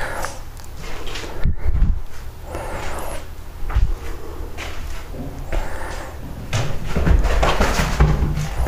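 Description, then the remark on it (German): A male cat scampers across an indoor floor: a scattered run of soft thumps and patters, with a few heavier thuds, moderately loud, and no one talking. “Ja, der Kater rennt auch, ihr hört das.”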